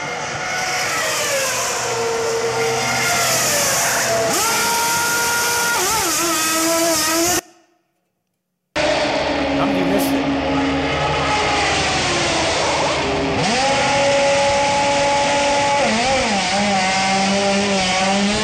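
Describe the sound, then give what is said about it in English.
A race car pit stop in which a crew swaps four tires, with loud engine drone and revving pitch sweeps alongside high whining mechanical bursts, broken by one brief moment of silence midway. No one speaks. “The car pulls in fast, stops, and these people go to work instantly on a vehicle.”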